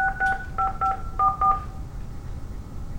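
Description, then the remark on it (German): A quick series of telephone keypad tones, about six steady dual-pitch beeps in short bursts, pressed at an uneven rhythm over a faint low hum, with no one speaking, as a PIN is entered to reach a Microsoft Exchange mailbox. “Geben Sie Ihre PIN ein und drücken Sie die Raute-Taste.”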